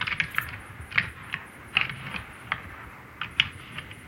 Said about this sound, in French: Et hier soir, j'étais assez pessimiste en posant les microphones, car vraiment, il ne se passait strictement rien à 20h. Et en fait, durant la nuit, beaucoup de choses se sont accélérées, dont plusieurs combats, combats de cerfs.